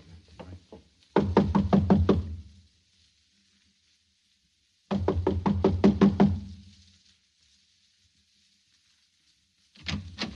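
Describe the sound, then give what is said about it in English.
Knocking on a door in quick, firm rapping bursts of about six knocks each, separated by pauses of silence, with a third round starting at the end. Fairly loud, with no voices. “I'm going to knock on the door now and keep smiling to show we're friendly and let me do all the talking.”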